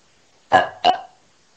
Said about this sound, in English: You burp first. Belch. There. Start belching, guys.